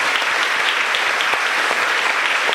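A church audience applauds the word of God after the Gospel reading, steadily, a dense wash of many hands clapping at once with no clear rhythm, loud and sustained for the whole moment with no voices standing out.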